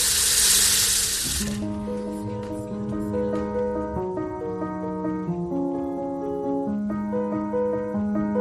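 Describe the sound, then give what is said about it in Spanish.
A loud rush of water running from a tap for about a second and a half, then cut off as sustained, gentle music fills the rest. “El grifo corriendo es una de las opciones que tienes para poder beber, pero no es la única.”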